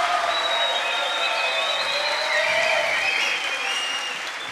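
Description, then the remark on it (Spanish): Sustained applause from an audience for number 4, a dense steady wash of clapping filling the whole stretch, loud, with faint whistles or cheers rising above it before it slightly fades. “Y un fuerte aplauso para el número 4.”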